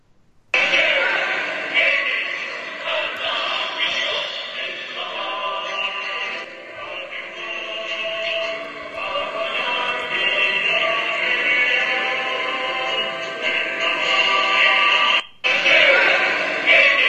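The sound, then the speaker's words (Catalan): The Villarreal football club anthem blares loudly and continuously from balconies in an area of Villarreal, its band-limited, slightly tinny sound filling the space for the whole stretch with a brief dropout near the end. “Pues sí, l'himne del Villarreal Club de Futbol a to meter des dels balcons d'una zona de Villarreal.”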